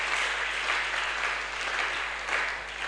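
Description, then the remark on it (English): An audience applauds steadily for about three seconds, a dense, even wash of many hands clapping at moderate loudness with no one speaking over it. “I think you should be clapping.”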